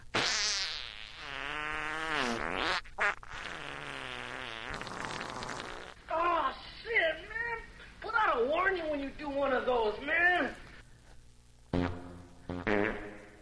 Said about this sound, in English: We need fart sounds for Asshole of the Week, starting with Cheech from Cheech and Chong.